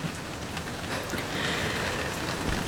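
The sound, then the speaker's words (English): Steady, dense rain pours down in a continuous hiss, a full rainstorm with constant patter on surfaces and faint low rumbles beneath, with no voices. “In my excitement, I did not see that storm for what it was.”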